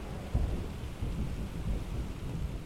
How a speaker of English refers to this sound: I have woken to a summer thunderstorm, and its tinny patter on our skylight offered not just relief from days of heat, but also from the barrage of my tinnitus as I spent another day trying to write about it.